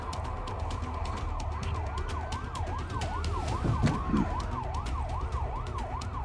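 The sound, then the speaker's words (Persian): Emergency vehicle sirens wail in fast, steady up-and-down cycles with a slower second siren sweeping beneath, over a low traffic rumble, loud and continuous throughout with no voices. “صدای آجیرا رو میشنوم، صدای بیسیما رو میشنوم، ولی صدای هیچ ماشینی رو نمیشنوم.”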